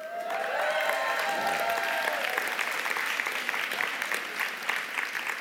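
An audience claps steadily, a dense crackle of many hands filling a large reverberant space at moderate volume, with some faint tonal ringing at the start that fades as the applause continues.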